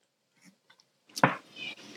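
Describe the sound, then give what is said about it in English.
Mouth sounds: a few faint wet clicks, then a louder slurping sip and gulp of olive oil, swallowed to test for a burn in the throat, that trails into a soft airy hiss, with no talking. “So what we're going to do is we're going to take a sip, swallow it, and see if you feel a burn in your throat.”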